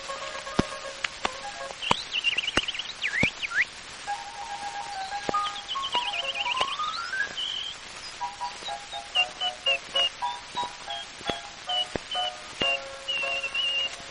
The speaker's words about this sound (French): Ce gazouille infernal, canard et tourterelle, sur un motif entrée de balle, ouvre une passerelle.